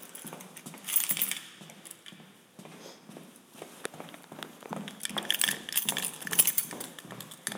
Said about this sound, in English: Sorry, all my keys are jingling. Gotta have a whole bunch of different keys for all these doors, you know?